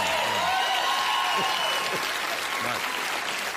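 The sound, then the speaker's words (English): An audience claps steadily in a dense, sustained burst of applause that stays loud throughout, with faint voices and scattered cheers mixed into the crowd noise. “You're applauding me because I got that word out?”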